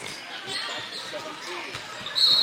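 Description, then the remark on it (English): A referee's whistle cuts in with a sharp, high, steady blast near the end, calling a blocking foul on player Wolf with about two and a half minutes left, rising above a constant murmur of crowd noise and the bustle of a basketball game. “And there's a whistle.”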